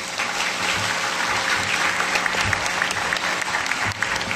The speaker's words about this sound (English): Let's welcome Clint with a big, warm applause.